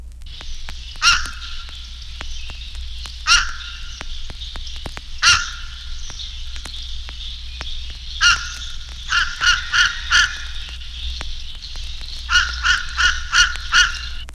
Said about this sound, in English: The call of the Fish Crow is more abrupt and hoarse.